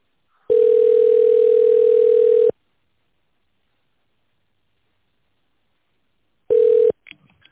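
A telephone ringback tone: a steady, mid-pitched hum sounds for about two seconds, falls silent for four, then starts again briefly before being cut off, followed by a few faint clicks.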